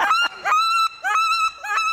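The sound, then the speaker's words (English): A wood duck call imitated on a whistle-like caller: three rising, squealing notes with strong harmonics, each beginning with a quick upward swoop, loud with short gaps between. “And this is a wood duck.”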